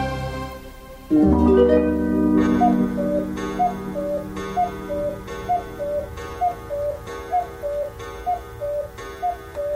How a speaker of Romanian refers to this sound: Bătând ceasul din burta crocodilului.